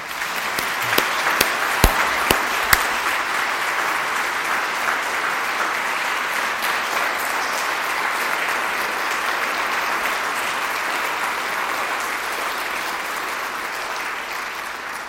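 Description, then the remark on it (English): A crowd claps steadily and warmly for about fifteen seconds to thank a choir after its performance, a dense sustained applause with a few sharper claps standing out near the start, loud. “I think it's because of the nature of the music that we heard that we didn't do as we often do, namely break into applause when the choir has done something like this.”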